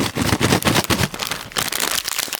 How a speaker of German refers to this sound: 3, 2, 1. Tüte ist auf. Hör mal.